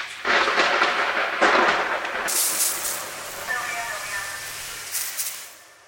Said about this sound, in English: One time, in the grocery store produce section, the light started blinking, and a thunder sound effect played to signal that the vegetable misters were about to turn on.